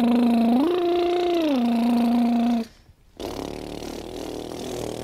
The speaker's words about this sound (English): Okay, well, you got the lip trill. You got the lip trill. I sound like a lawnmower.